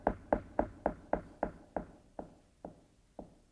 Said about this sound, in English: Look, I stand at the door and I knock.